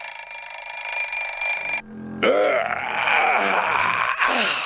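person snoring in bed

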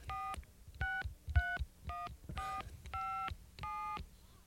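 telephone being dialed

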